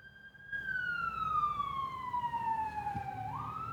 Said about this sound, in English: oh my God, these sirens. Hold.